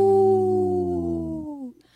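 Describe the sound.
A person imitates a deep wolf howl, one long sustained low tone with rich harmonics that slowly sags in pitch before trailing off into quiet after about a second and a half.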